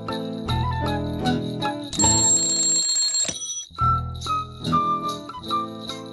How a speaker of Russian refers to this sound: Ты будильник заведи, да Ивана разбуди.